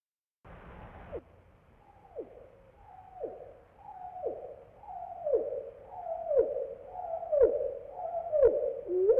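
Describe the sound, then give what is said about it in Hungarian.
A chaffinch song phrase slowed eightfold: a steady series of long, downward-swooping whistled notes, about one per second, growing louder toward the end, with no voices. “Most hallgassuk meg az erdei pinty énekét normál lejátszásban, majd egy ének strófáját 8-szoros lassításban is.”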